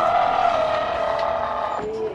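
The door of a pediatric intensive care unit at Johns Hopkins Hospital in Baltimore opening with a steady mechanical whir and a tonal whine that holds for about two seconds, then drops in pitch near the end. It is loud and alone, with no talking.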